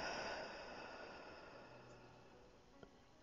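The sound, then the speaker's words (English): A single deep breath drawn in through the nose and breathed out slowly, soft, airy and quiet, slowly fading away, with no talking. “So while you're all curled up in your cocoon, I want you to take a deep breath in through your nose and breathe out slowly.”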